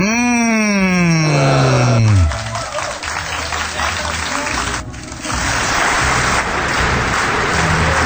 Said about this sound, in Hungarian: Van itt minden örömújongás vastaps.